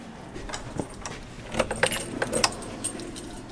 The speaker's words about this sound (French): Alors là, je vous vois sortir les clés telles Saint-Pierre, vous nous emmenez... Oui, enfin, c'est des clés vachettes. Hein. C'est moins impressionnant que le trousseau de clés du bon Saint-Pierre.